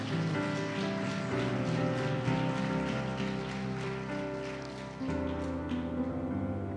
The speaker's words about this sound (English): Can I get a hand clap on that, anybody?